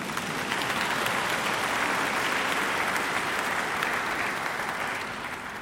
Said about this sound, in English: Yes, you can clap if you want, by the way.